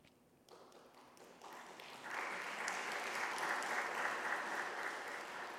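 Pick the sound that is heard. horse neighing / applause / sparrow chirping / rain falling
applause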